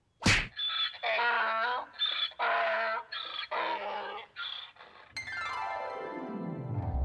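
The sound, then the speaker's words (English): One sharp, loud punching thwack as a donkey is punched, followed by a run of agitated donkey braying and groaning, then a long descending whistle-like sweep. “So, you infuriated the donkey by punching it.”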